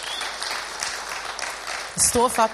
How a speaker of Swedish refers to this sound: Ja, det är bra. Det är bra. Det tycker jag är värt en applåd.